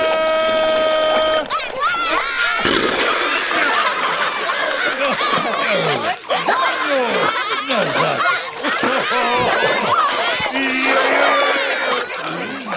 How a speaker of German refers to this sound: Eine richtige Wasserschlacht ist da im Gange. Alle patschen mit den Händen, Füßen, Pfoten, Rüsseln und Schwänzen ins Wasser und spritzen sich gegenseitig nass.